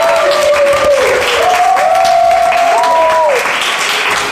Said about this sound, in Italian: Grazie al gruppo …, fatevi un applauso, siete stati bravissimi.